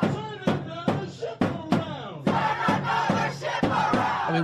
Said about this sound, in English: These are the chants in New York streets after we hit back the Houthi rebels, who mm-hmm. have hit us back, hit us maybe 30 times.